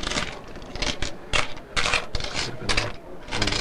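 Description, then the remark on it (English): Coins being counted on a counter by an employee: a steady run of metallic clinks and light scrapes as pieces are slid and stacked one after another, with no talking. “As the employee separates the coins, Robert and the other customers in line look on impatiently.”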